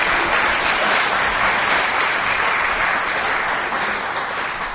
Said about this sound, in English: And they came to church on Saturday, May 17th, and planted 8 trees in the church to show their faith in action and beautify the church. They showed their faith in God in this church. Let's give them a round of applause and appreciation.